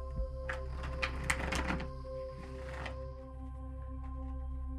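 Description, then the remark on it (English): A deck of cards being shuffled for a divination reading: a quick flurry of crisp, rapid riffling clicks for about two seconds, then a shorter second burst, moderately loud over a steady low hum, with no talking. “I invite everyone to simply ask themselves a question, and with that intention in mind, I'll shuffle the deck.”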